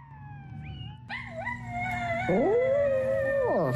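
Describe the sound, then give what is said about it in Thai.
A small dog named Pazi howls along with a recording of its own howl, played via a smartphone app from a sound-wave tattoo on its owner's right arm, in long, wavering harmonic tones, joined partway through by a second overlapping howl that swoops up and down; fairly loud, with no talking. “เจ้าพาซี่สุนัขตัวน้อยหอนคลอไปกับเสียงของตัวมันเองที่ดังอยู่บนสมาร์ทโฟนของจูเลน่าผู้เป็นเจ้าของต้นทางของเสียงนี้ไม่ได้มาจากโทรศัพท์นะคะแต่มาจากรอยสักเจ้าบาซี่บนแขนข้างขวาของเธอ”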